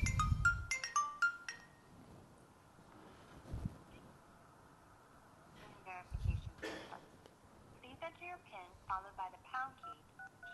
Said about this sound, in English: So I need to validate myself using the phone. So I can say to sign in with my phone. And let's hope it does something. Okay, it says it's calling my phone. There, my phone is ringing.